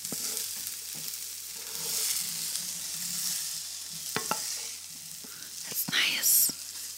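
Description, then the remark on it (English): Steady sizzling of food roasting in olive oil with spices in a pan, a bright crackling hiss throughout, with occasional sharp pops and clicks of a utensil stirring the pan. “Sizzle.”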